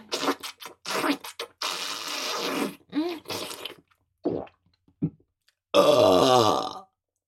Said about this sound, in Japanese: 我慢汁すごすぎた。特大我慢汁ゲップが出てしまいました。